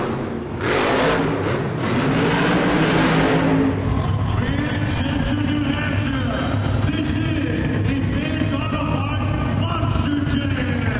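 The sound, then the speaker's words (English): The engine of the monster truck Crush Station, built in the form of a giant lobster, roars loudly as it is waved out, opening with a harsh, blasting rev for a few seconds, then settling into a heavy, rumbling drone that keeps pulsing and surging throughout. “Master of Ceremonies Jody Donnelly waves the monsters out. Crush Station, a monster truck in the form of a giant lobster, is followed by Captain's Curse”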